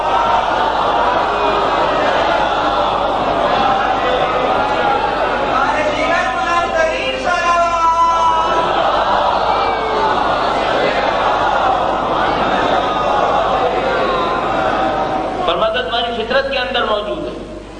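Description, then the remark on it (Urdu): A large crowd chants salawat together in unison, "Durood bhej Muhammad o Aal-e-Muhammad", a loud, dense wash of many voices, swelling in rhythmic bursts for around eighteen seconds. “زین محترم، بہت زیادہ میری خواہش نہیں ہوتی کہ لوگ نعرے لگائیں، لیکن میری خواہش یہ ہوگی کہ نبی اور ان کی آل کا نام ذرا عظمت سے لے لیں. درود بھیج محمد و آل محمد.”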